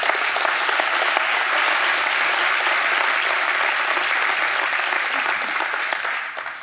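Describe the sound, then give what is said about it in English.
A crowd breaks into sustained applause, many hands clapping in a dense, steady wash that stays loud throughout and eases off slightly at the end, with no voices standing out. “You can clap if you want.”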